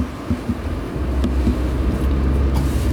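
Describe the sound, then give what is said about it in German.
A bus full of people rumbles by in autumn with a deep, steady engine drone that swells slightly as it moves along, with no voices, just low mechanical noise and faint clatter. “So, wer gewinnt? Bus oder du? Bus.”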